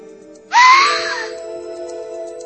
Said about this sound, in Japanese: 僕は思わず悲鳴を上げてしまいました。ゴキが乗ってもゴキが出ても悲鳴を上げない僕が悲鳴を上げました。